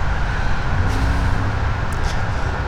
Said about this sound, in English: Ooh, lots of traffic.